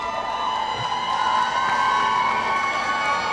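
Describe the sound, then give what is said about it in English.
A large basketball crowd roars and cheers continuously after the final buzzer of a district championship game won 50-47 by USA over Bad Axe, one half excited and the other stunned; a dense wall of shouting voices and whoops stays loud and steady throughout. “As this crowd is excited on one half and absolutely stunned on the other. Let's listen in.”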